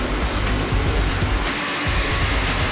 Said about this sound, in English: The most exciting part of NHRA professional drag racing is that these race cars, is the noise, you can feel them. When they go down the racetrack, you really feel them. These things shake the ground. It's like a little mini earthquake.